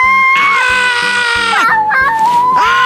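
A baby girl randomly lets out a loud, high-pitched scream held for over a second, then a shorter squeal and the start of another scream.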